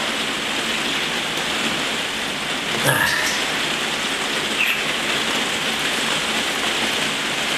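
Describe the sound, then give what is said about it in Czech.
Steady rain falls in a dense, even hiss that holds for the whole stretch, with one brief sharper splash or knock partway through. No voices are heard. “Žena jenom chtěla vědět, jestli u nás prší.”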